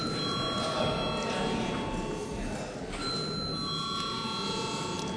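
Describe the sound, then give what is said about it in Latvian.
A parliamentary voting call bell rings steadily and without a break for about five seconds before a vote on declaring a bill urgent, a sustained electric ringing over a low murmur in parliament. “Godātie kolēģi, mums jāizlem jautājums par steidzamību. Lūdzu zvanu.”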